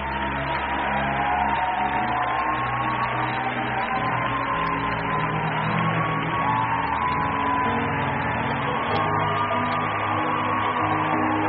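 A crowd applauds steadily and loudly for about eleven seconds, celebrating mothers as they are helped down, a dense wash of clapping that never lets up, with a sustained musical tone and low hum running beneath it.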